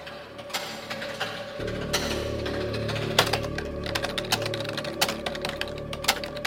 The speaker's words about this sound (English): There's a clacky keyboard, which to me was very like proto ASMR.